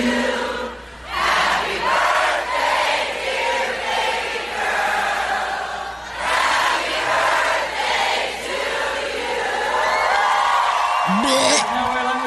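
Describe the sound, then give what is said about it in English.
A large crowd cheers loudly as a singer sings happy birthday to Nicole Kidman with the crowd, a dense roar of many voices with whoops and sung tones rising through it, swelling and briefly dipping a few times before surging again. “… sings happy birthday to Nicole Kidman with a crowd.”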